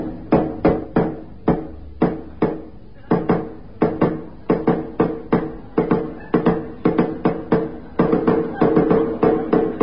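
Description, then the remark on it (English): Someone raps on a door over and over, dozens of sharp knocks in quick, uneven bursts that keep going without a break. The knocks are fairly loud and no voices are heard. “the tea house, as instructed, I knocked 6,000 times.”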